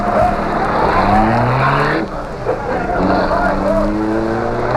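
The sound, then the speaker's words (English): A car driven by Cato roars and climbs in pitch as it speeds off, tires squealing in high wavering whines. The sound stays loud throughout, dipping briefly midway before surging again. “Give it the gas, Cato.”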